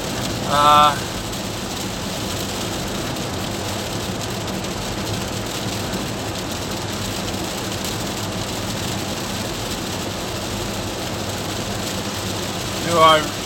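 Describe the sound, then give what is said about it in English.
Heavy rain pours down in a steady, dense hiss that fills the whole stretch, with a low rumble beneath it and brief voice sounds near the start and end. “It's not exactly critical, and it's pissing down rain.”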